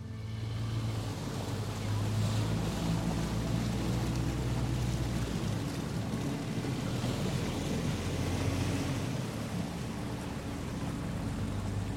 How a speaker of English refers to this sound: Down at the marina, the ferry was finally coming in from Florence.